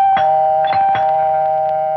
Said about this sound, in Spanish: tocaron el timbre de su casa y Nayame fue a... abrir la puerta y al hacerlo, miró a su primo Jairo.